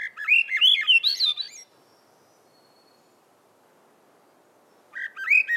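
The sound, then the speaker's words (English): A Swainson's thrush, recorded in Acadia in the North Woods in summer, sings a bright, rising spiral of fluting notes for about a second and a half, falls silent for several seconds, then begins another upward-swirling phrase. “She's caught songs that are emblematic of summer in the North Woods, like the Swainson's thrush.”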